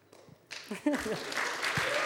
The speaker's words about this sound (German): Heute tun wir einfach ein bisschen klatschen, weil es so schön ist.